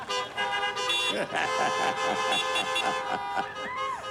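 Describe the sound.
A loud horn honks in a rapid, insistent series of blasts that runs the whole few seconds, signalling performers to get off stage, bright, with a few voices murmuring underneath.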